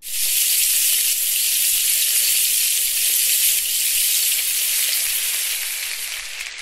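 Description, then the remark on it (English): Bacon sizzles steadily in a frying pan, a dense, bright crackling hiss that holds at an even loudness throughout, with tiny pops scattered in and no voices. “So actually, I lied. They're all bacon.”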